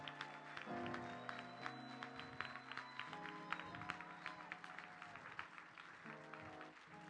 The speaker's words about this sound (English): we want to honor the First Lady of the house this morning. Can I have a round of applause